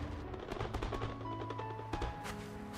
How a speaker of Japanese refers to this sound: だから俺こんなに近くで花火見るのも、あとこんな風に女の人と二人で花火とか見るのも初めてです。